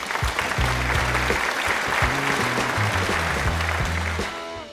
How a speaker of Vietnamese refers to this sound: Chúng ta hãy cùng dành tặng bạn Tony và phụ huynh một tràng pháo tay nào!